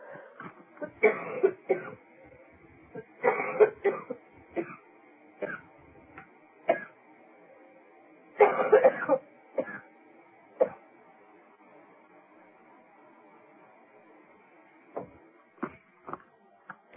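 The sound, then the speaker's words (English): A bout of coughing comes in several bursts, with sharp throat-clearing hacks in between. The coughs are fairly loud, bunched in clusters with quiet gaps, and no one is talking. “Oh, thank you for that slight coughing fit again with that disruption.”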